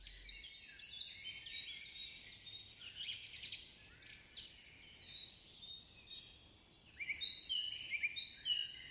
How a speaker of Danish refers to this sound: Der er ingen blade på træerne, men på alle grenene ligger der fin hvid sne. Selvom det er vinter, kan Geo høre nogle fugle, der synger en sang.